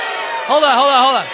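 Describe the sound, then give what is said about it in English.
A crowd of voices booing together in a sustained, wavering drone lasting about a second, rising and falling in pitch, fairly loud, with no clear speech over it. “Let me tell you why they're booing.”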